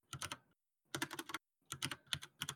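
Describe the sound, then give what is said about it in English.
Quick bursts of typing on a computer keyboard with a newly changed key layout, three clusters of rapid clicky keystrokes separated by short pauses, with no talking. “To our listeners, I do not recommend changing your key layout and then not practicing with it, because it makes you type like a grandma.”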